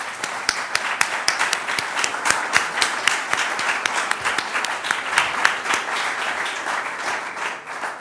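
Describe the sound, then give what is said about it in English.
An audience applauds three speakers at an event, many hands clapping in a dense, sustained patter that holds an even level before easing slightly at the end. “If you join me in a round of applause.”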